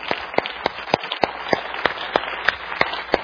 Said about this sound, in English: You know, most of all, I want you to clap. I want to see. I want you to clap. Keep clapping.